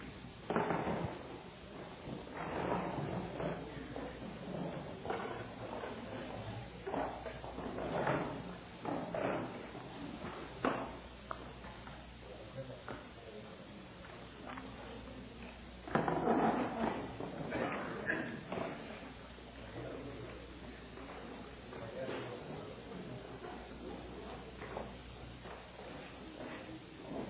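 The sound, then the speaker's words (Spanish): Chairs clatter and scrape as people pick them up and move them forward to sit closer together, with irregular knocks and shuffling footsteps, mixed with murmuring voices. “¿Por qué no pasan las sillas más para adelante?”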